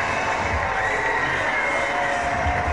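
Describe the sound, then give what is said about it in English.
A ballpark crowd cheers loudly and steadily, a dense roar of many voices with scattered shouts and whoops rising over the wash of noise, after Acuna scores on Foskey's RBI double to put the Rough Riders on the board. “There's that crowd.”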